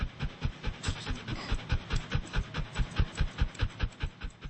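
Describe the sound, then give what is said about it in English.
Archie, a freshly groomed pedigree dog, pants rapidly and steadily, quick breathy huffs repeating in an even rhythm for several seconds with no one talking. “However beautiful, Archie is just a dog.”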